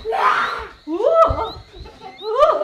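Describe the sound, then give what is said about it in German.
A tiger lurking in a thicket roars loudly in three growling bursts: a rough, breathy snarl, then two long rising-and-falling roars with short pauses between. “Vielleicht den Tiger, der im Dickicht lauert.”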